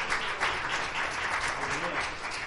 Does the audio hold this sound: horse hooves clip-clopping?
no